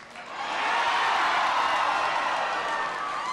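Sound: audience cheering and whooping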